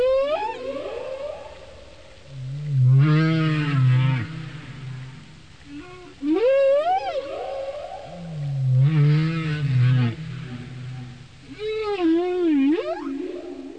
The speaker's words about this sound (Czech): Díky tomu mohli sledovat, jak se nové písně šíří také dál, do dalších skupin keporkaků.